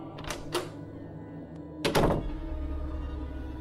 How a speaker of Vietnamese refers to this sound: lập tức chạy về phòng, khóa chặt cửa lại.